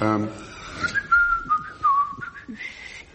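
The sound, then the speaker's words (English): Someone whistles a short, wavering melody, the notes sliding up and down in a steady line, fairly clear, with a bit of breathy voice at the start and end. “what would a phylogenist whistle?”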